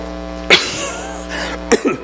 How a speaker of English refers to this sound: Can't get rid of this chest cold, so if I cough and collapse, I'm just one of the seeds. It's okay, I'll be all right.